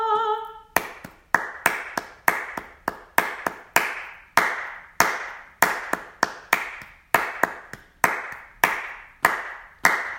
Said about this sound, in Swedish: Klappa händer alla folk, hylla Gud med jubelrop.